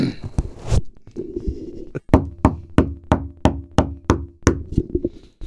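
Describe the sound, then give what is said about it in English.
Knocking from the ceiling inside a house around 6:05 a.m., made by someone locked in: a steady run of about ten sharp, loud thuds in an even rhythm, preceded by a few scattered hits, with no one talking. “And it's not coming from the door, it's coming from the ceiling.”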